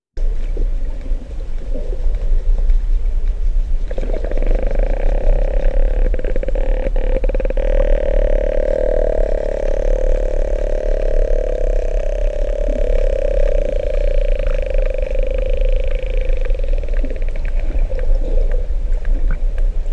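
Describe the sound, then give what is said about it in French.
Whale echolocation clicks, a short cluster of sharp ticks early on, set against a loud, steady droning whale tone that continues throughout over a low underwater rumble. “Avec ce chant des baleines, on va tout de suite écouter ces clics que vous évoquiez.”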